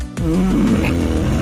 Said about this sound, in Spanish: Claro, Carmen también nos ha mandado el ronquido de su marido